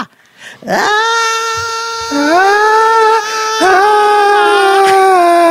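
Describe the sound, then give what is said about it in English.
Cats yowl loudly in long, drawn-out wails, each new cry sliding upward at the start. Three overlapping calls run nearly continuously, with no talking. “Ooh, cats.”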